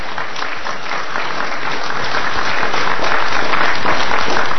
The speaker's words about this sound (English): And I think we should give a round of applause to all of the candidates this evening who have turned up and spoke so well.